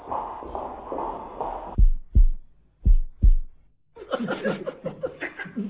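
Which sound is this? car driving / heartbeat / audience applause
heartbeat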